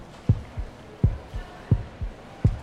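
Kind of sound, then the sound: sound effect, heartbeat sound effect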